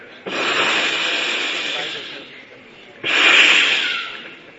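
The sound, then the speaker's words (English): A voice imitates snakes with two long, breathy hisses, the first lasting about two seconds and the second after a short pause, both fairly loud with no words. “What's that? So many snakes trying to bite him.”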